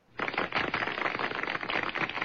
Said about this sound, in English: How about that applause? That's nice. I didn't know we had a studio audience.